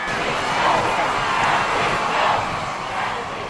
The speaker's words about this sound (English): Thousands cheered and gave a warm welcome to Pope Francis when he stepped out of his plane in Mexico City Friday night.